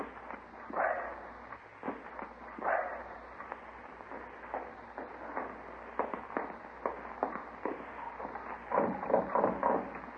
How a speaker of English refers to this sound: That fuzzy little pup of theirs, he's running all around the lobby.